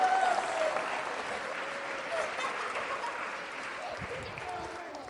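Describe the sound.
A burst of audience applause, dense steady clapping from a crowd that holds for several seconds and slowly tapers, with faint voices mixed into the noise.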